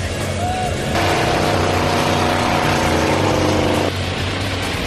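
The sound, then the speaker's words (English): A loud car engine revs hard for about three seconds during a timed competition run, its roar swelling into a harsh, gritty burst as the wheels spin on dirt and kick up dust, then drops back to a steady lower rumble. “The engine's revved up and those wheels are really spinning.”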